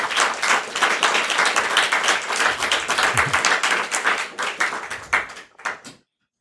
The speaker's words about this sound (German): Dann bitte ich euch für einen großen Applaus für unsere zwei Sprecher und viel Spaß.